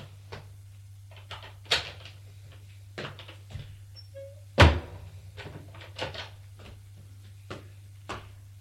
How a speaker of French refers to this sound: Le père crie : ouvre, c'est ta mère. Il va ouvrir la porte furieux.